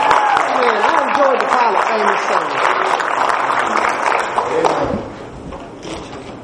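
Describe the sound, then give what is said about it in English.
An audience at a service gives the Lord one more hand clap, clapping steadily in a dense, continuous wash of applause with voices calling out beneath it, then the clapping thins and drops off sharply near the end. “If you've enjoyed the service so far, let's give the Lord one more hand clap.”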